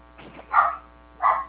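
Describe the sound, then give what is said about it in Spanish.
A dog barks twice in the background, two short sharp barks about half a second apart, moderately loud, with no one talking over them. “¿Pero cómo se escucha un perro?”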